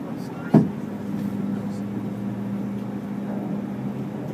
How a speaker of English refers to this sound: Spinning fast. Yeah, they're starting the engine on this side. I hear the noise.